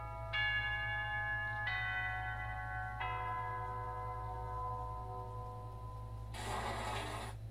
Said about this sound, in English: As if to tease me, the bell for second period rings through the speakers.